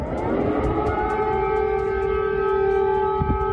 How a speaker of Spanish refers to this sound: Alarmas antiaéreas que en muchas ocasiones se veían acentuadas por el sonido de los misiles y de los morteros golpeando las calles y los edificios de Kiev.